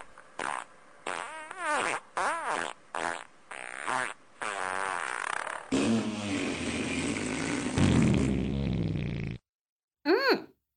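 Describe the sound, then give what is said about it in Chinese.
In a toilet, a rapid string of short, loud farts with squeaky pitch bends, then one long, rough, sputtering fart lasting several seconds, a pause, and a final brief toot. “别放屁了，好臭啊，现在厕所里好臭，你的臭屁味和大便味混合在一起，超级臭的。”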